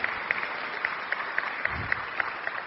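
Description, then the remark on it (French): An audience applauds the news of the Gospel during a sermon, steadily, a dense wash of many hands with a regular beat of sharper claps running through it, at moderate loudness with no one speaking. “Oui, tu peux applaudir.”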